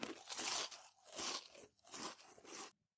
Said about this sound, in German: Du hast da so richtig so Chips mit offenem Mund. Uah. Das ist ja auch nicht nötig. Man kann ja den Mund einfach zumachen.